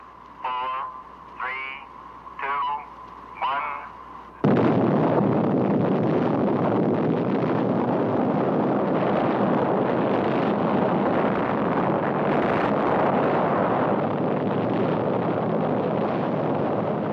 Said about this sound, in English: Watched from a safe distance, this explosion is one of the most beautiful sights ever seen by man. This Army training film from 1955 shows the brilliant light and terrifying mushroom cloud of an atomic detonation at Frenchman's Flat, Nevada.